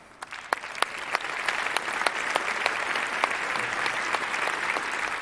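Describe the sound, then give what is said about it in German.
Steady audience applause at a poetry slam as the first performer is welcomed to the stage, a dense wash of many hands clapping with a few sharper claps standing out, sustained at an even level throughout. “Und den Applaus halten!”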